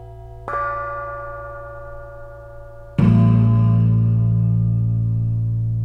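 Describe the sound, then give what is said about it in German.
A bright, high silver bell is struck once and rings out with a long shimmering decay, then a second, deeper and louder copper bell strike follows and sustains to the end, with no voices. “Silberne Glocke.”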